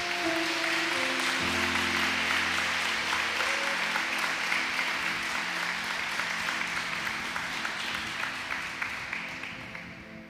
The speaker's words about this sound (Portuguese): Você pode dar um beijo na sua Bíblia e aplaudir bem forte o nome de Jesus nessa noite.